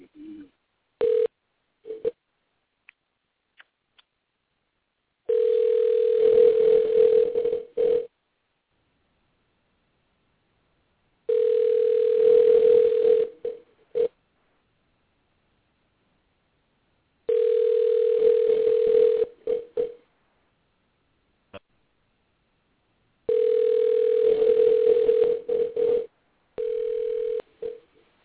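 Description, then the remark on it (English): A steady, mid-pitched telephone dial tone on a phone call to a Chinese restaurant sounds in four loud bursts of about two seconds each, separated by silent pauses, with a hiss of line noise and a few clicks at the start. No one speaks. “You got bad service on the phone.”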